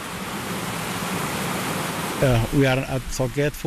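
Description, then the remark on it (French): A small stream winds through tall grass, flowing steadily with a constant, even rush of water, heard alone for about two seconds before a man begins speaking over the continuing flow, at the Sorgette forest post in the Nando river basin, which drains into Lake Victoria, in the Mao forest, Kenya. “pointe du doigt un petit cours d'eau qui slalome entre les hautes herbes.”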